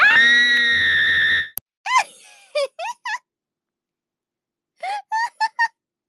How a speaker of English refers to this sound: Did you guys hear the scream? Jump scare.